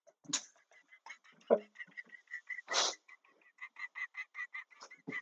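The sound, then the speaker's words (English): A bald eagle's screech sound effect: a run of high, piping chirps in a rapid stuttering series, loud, broken by a couple of harsh rushing bursts. “Holy shit, do you see that bald eagle fly out of that man's asshole?”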